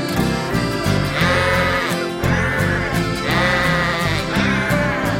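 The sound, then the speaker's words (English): Sung baa-like bleats imitating sheep ride over a full, steady musical backing, repeating in short phrases at an even rhythm, loud throughout. “That is what sheep say.”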